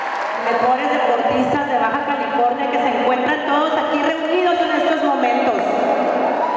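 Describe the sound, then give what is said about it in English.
A large crowd applauds and cheers the governor of Baja California at an event with Olympic athletes and young athletes, a steady, dense roar of many voices and clapping that stays loud and unbroken from start to finish. “And while the tracksuit governor got her fair share of applause, the real stars of the show were the Olympic athletes.”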